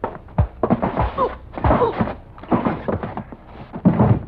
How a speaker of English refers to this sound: All right. Open the door. Yeah.